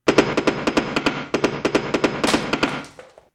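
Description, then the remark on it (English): A hammer pounds five long nails into a block of wood in a fast, steady burst of roughly fifteen sharp, loud knocks, with no talking, ending in a short fading ring. “5 long nails and a block of wood. Open hammer application.”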